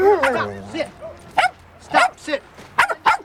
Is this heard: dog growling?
yes